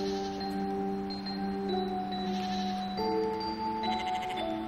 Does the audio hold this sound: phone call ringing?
no